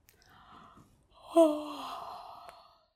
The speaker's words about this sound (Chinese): 他太困了，一直在打哈欠。